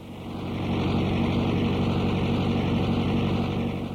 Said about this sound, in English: A tractor roars ahead on the Coftry Christmas tree farm on a sunny day in late fall. It's used to mow the grass growing between the trees on the 35-acre site outside of New York's state capital, Albany.